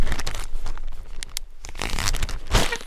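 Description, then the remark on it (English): Continuous crinkling and rustling of a plastic bag being handled as a mining claim location notice is put inside and sealed against the elements, with sharp crackly bursts and a louder scrunch near the end; no voices. “Okay, so we're gonna put it in a plastic bag, seal it against the elements.”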